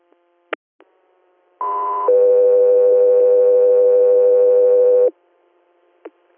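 A two-tone radio dispatch page: a brief higher steady tone, then a longer lower tone held for about three seconds, loud and clean, with faint radio clicks before and after.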